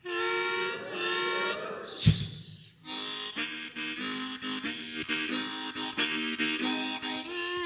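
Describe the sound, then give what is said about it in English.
A crowd of voices imitates a train whistle together, joining a storyteller in blowing the whistle during a story about the Cannonball train, holding long wailing hoots that swell loudly, break off briefly after a sharp clatter, then rise again in sustained overlapping tones. “When I blow the whistle, you got to blow the whistle with me, all right?”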